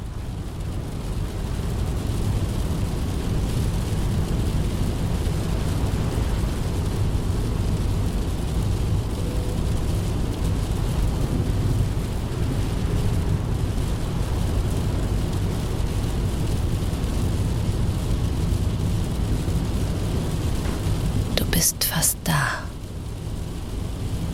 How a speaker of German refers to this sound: Das Geräusch des Motors harmoniert mit den sanft gegen die Fenster prasselnden Regentropfen. Und das stürmische Meer in der Ferne fügt einen rhythmischen Unterton hinzu.